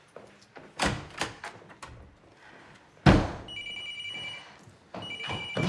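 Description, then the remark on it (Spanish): A telephone bell rings in two bursts after a series of knocks and a heavy thud, its bright metallic trill fairly loud, with no one speaking. “¿El teléfono?”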